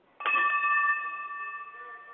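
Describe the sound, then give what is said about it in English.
A single strike of an old-school bell, rung so its frequency can be monitored, rings out clearly, its bright metallic tone sustaining and slowly fading over a couple of seconds with no talking. “Because we have, like, one of the old-school bells. Yeah, I just need you to ring the bell so I can monitor the frequency and make sure it's working right.”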